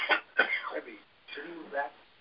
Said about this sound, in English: You guys know what cough is.